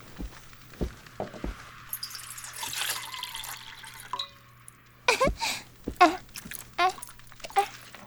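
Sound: water running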